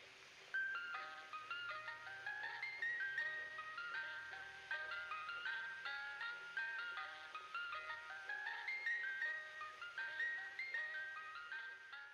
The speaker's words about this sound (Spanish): No, pero ¿sabes qué? Justo pensé eso en lo mismo cuando vi el episodio, pero reflexioné y dije, no, no creo porque la musiquita que traen los coches de paletas es muy macabra.